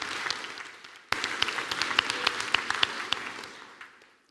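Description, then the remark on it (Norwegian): An audience at a church service breaks into applause for a silver result, a dense wash of many hands clapping, swelling suddenly after a second, holding steady, then tapering off as it ends. “Vi tar en liten applaus for det.”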